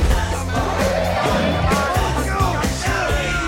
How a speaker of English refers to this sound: Inside the station wagon, they cheer and high-five. There it goes!